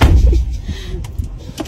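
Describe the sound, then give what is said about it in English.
A car door opens and shuts: a heavy low thump at the start, then a couple of sharp latch clicks over a steady rumbling background. “I'm not going to open the door for her.”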